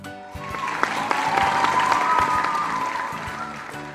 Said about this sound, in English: Everyone claps and shouts. They are so excited.